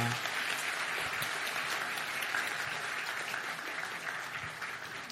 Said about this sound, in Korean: 예, 선생님 앞으로 모시겠습니다. 이제 박수로 모시겠습니다.